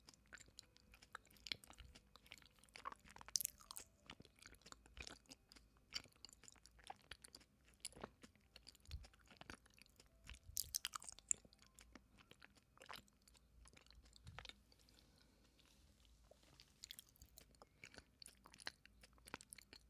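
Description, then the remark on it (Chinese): Wet chewing of a very large, sticky tangyuan glutinous rice ball being fed to someone, with soft smacking and squishing bites repeating irregularly for the whole stretch, no talking. “这个汤圆特别大，哥哥要张大嘴。这个样子，好了，我要喂你喽。”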